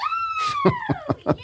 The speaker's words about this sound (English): See, now it makes sense. It all kind of comes together. It was just a random scream before, but now we understand.